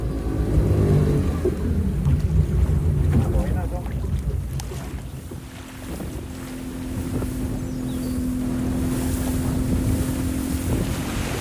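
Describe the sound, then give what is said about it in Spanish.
A motorboat engine drones steadily at sea on a trip toward Puerto Valdía, Panama, its low hum and harmonic whine continuous throughout, with gusts of wind buffeting the microphone and water rushing against the hull. “El día después, por fin salimos en barco en dirección a Puerto Valdía, en Panamá.”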